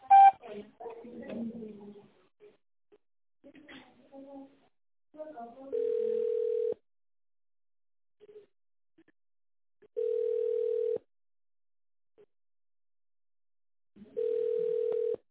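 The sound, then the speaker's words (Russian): A recorded phone message from the office of the company Za Sport plays, then a steady mid-pitched telephone tone sounds three times, each a flat beep about a second long, separated by long silent gaps. “Наберите добавочный номер в тоновом режиме после сигнала или дождитесь ответа оператора.”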